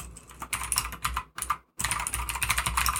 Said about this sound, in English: Isn't my keyboard so pleasant to listen to? It's really nice.